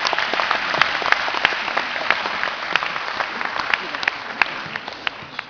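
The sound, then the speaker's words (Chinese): An audience applauds steadily to welcome the performer Zhang Weiliang onto the stage to play the dizi flute piece 'Chunchao'. The applause is a dense wash of clapping with sharper individual claps standing out. It holds an even level for about five seconds with no voices over it. “好，接下来请您欣赏笛子曲《春潮》，作曲刘惜君、霍殿新，演奏张维良，让我们掌声请出我们营销演奏家张维良先生。”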